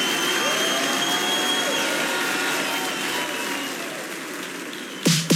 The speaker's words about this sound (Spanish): Fuerte el aplauso para la gigante de Quintanilla. Aparte el aplauso.